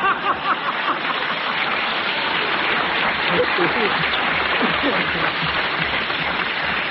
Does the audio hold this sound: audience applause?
yes